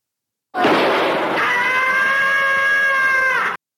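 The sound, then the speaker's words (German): A cartoon cat scream sound effect, the characteristic scream of Tom from Tom and Jerry: a loud, sustained yowl that opens raspy and noisy, then settles into a strained, tonal wail held steadily for about three seconds before cutting off abruptly. “Ja, und da hättet ihr doch, das ist doch der charakteristische Schrei aus Tom und Jerry.”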